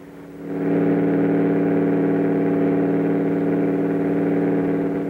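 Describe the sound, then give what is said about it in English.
An airplane engine drones with a steady, harmonic hum that swells up within the first second and then holds loud and even, with no voices. “There it is. You were right. A plane once more.”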